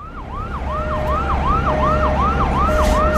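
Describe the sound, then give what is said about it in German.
An ambulance siren wails in rapid repeating up-and-down sweeps, loud, with a steady undertone beneath and traffic rumble in the background; no one speaks. “Und er hat einen Krankenwagen geklaut.”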